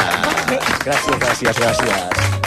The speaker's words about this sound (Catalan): Un aplaudiment.